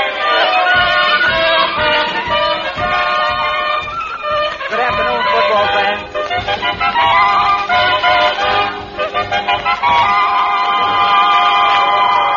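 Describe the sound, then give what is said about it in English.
A large crowd of football fans roars and cheers continuously at an exhibition game between Central Night School and John J. Boskowitz Night School, a dense wall of many shouting voices that stays loud throughout with brief surges and dips. “This is the biggest crowd these old-timers have ever drawn,”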